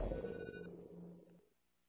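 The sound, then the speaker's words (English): A telephone rings with a short burst of electronic, tonal ringing that fades out after about a second and a half, heard alone with no voices. “When the phone rings, who do you want to answer?”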